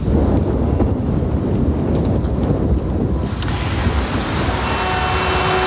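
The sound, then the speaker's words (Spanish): Heavy rain pours down steadily in a dense, continuous hiss, growing brighter and more intense about halfway through, with a low rumble underneath and no voices. “Si en las grandes ciudades se montan atascos en días lluviosos, imagínate todo un mes sin parar de llover.”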